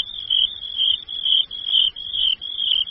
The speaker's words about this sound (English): Soon there were 10 crickets chirping. "Stop!" cried the mouse. "Your music is too loud." "Loud?" asked the cricket. "Yes, we can chirp loud." So the 10 crickets chirped very loud.